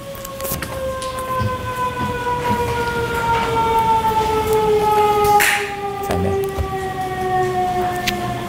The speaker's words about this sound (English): I was just waiting for the siren, Your Honor.